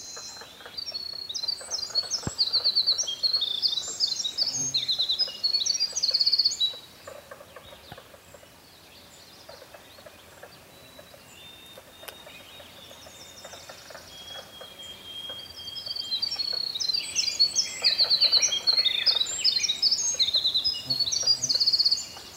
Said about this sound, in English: The very long, long song is a winter wren.